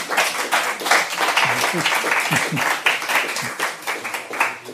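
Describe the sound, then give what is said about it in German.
An audience at the fourth and final round of Palaver 2019 applauds warmly to welcome a Swiss jazz educator. Many hands clap in a dense, crackling wash that stays steady and fairly loud for the whole stretch, with a few faint voices briefly mixed in. “Ich darf ihn kurz vorstellen, aber zuerst einmal einen warmen Applaus.”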